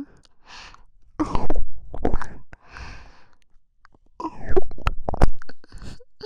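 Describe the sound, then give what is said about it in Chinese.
Wet mouth sounds of someone licking at a person's ear, coming in a few slurping bursts with brief quiet gaps between them. Intimate and loud, with no talking. “还是我来帮你舔吧，把另一只耳朵凑过来”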